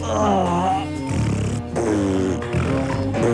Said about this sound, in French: alors c'est péter